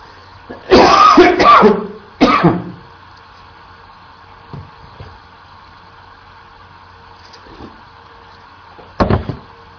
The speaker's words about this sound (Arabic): المعذرة، عندنا برد شديد وعندي كحة بسيطة، الحمد لله